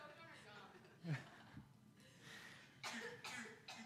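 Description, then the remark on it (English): A listener during a sermon, trying not to cough, coughs in short, muffled bursts, several stifled coughs spaced a second or so apart, quiet. “If you just need to cough really loud, go ahead.”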